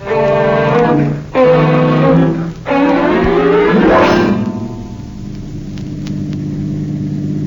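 A car engine revs up loud, climbing in pitch through a couple of gear changes, then eases off into a lower, steady rumble as the car drives down the street.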